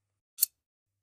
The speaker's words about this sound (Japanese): 十字にリボンができたら、片方を下にくぐらせて、緩まないようにしっかり結んで、蝶々結びにする。そしたら、ハサミで切って、完成。